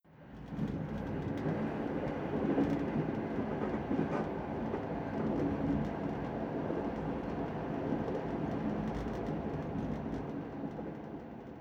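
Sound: train running on rails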